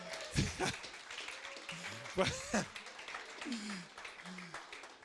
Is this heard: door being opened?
no